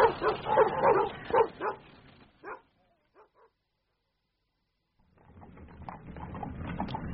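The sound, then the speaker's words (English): Several dogs at Noel bark in a rapid, overlapping volley, then a couple of faint yips follow before silence. A low rumbling noise with scattered barks rises afterward. “And the last I heard of Noel was the dogs.”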